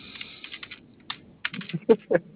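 Rapid typing on a computer keyboard, a quick irregular run of clicky keystrokes with a few heavier, louder taps near the end, heard alone without voices.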